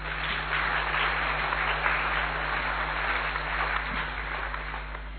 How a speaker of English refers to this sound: on behalf of all of them, I extend very, very, very hearty welcome to all of you. You may clap for yourself.